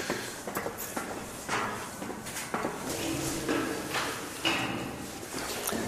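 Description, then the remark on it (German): Quick footsteps thud and clatter up a staircase to an observatory in a steady, hurried rhythm, in very cold weather, with no one talking. “So, jetzt gehen wir die Stufen hoch zur Sternwarte. Zügigen Schrittes, weil es ist doch sehr kalt.”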